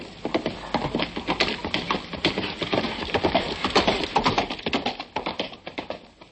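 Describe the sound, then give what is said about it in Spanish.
Horse hooves clip-clop in a quick, steady rhythm for several seconds, fairly loud, with no voices over them. “Tienes que coger un buen caballo y marcharte a buscar el castillo de los siete rayos de sol”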